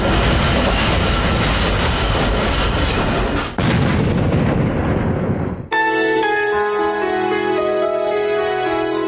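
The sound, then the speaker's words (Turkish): Loud, continuous rumbling and clattering of a metro train during a terrorist attack on the train fills the first half with a sudden jolt midway, then cuts abruptly to sustained tonal music. “Və 58 il sonra onun özü metro qatarında törədilən terror aktında yaşamını itirdi.”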